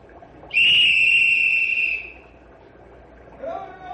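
A single long, shrill warning whistle blast, blown before a dynamite blast on a jammed log pile, sounds loud for about a second and a half, then cuts off, leaving a quieter background with a faint voice-like sound near the end.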